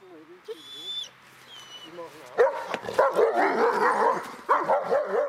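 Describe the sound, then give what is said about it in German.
Guard dogs bark loudly and repeatedly in a rough, overlapping chorus at nightfall, securing the grounds of the BND intelligence agency site in Pullach, after a few quieter moments with faint high chirping tones at the start. “Mit Einbruch der Dunkelheit übernehmen die Hunde die Sicherung des Areals.”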